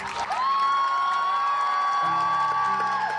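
A family, including children, grandchildren and great-grandchildren, cheers loudly and steadily for a 78-year-old woman graduating with her degree from Samford University in Alabama, with a long, high sustained whoop riding over the crowd noise for about three seconds. No clear speech.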